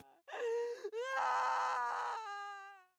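A girl screams and whimpers in pain: a loud, close, strained cry that catches briefly, then swells into a long sustained wail before trailing off, with no talking.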